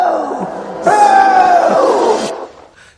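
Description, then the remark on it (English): A crowd sound effect of many voices cheering and booing, rising suddenly into a loud, sustained roar of yells and drawn-out falling boos, then dropping away to a faint murmur. “And the crowd goes wild.”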